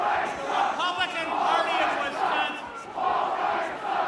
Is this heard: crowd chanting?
yes